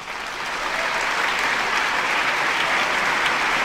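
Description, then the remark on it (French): A film festival crowd applauds Michel Simon steadily, a dense, even wash of many hands clapping that swells slightly in the first half second and then holds at a constant loud level throughout, with no voices. “Je voudrais que vous applaudissiez, par exemple, notre ami Michel Simon.”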